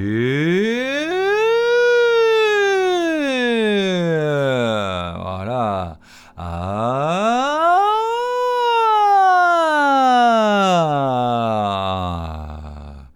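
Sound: vocal siren exercise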